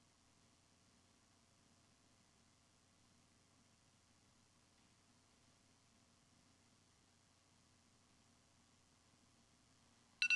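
A long stretch of faint, steady hiss, then a timer suddenly starts beeping right at the end with a loud, sharp, high-pitched electronic tone.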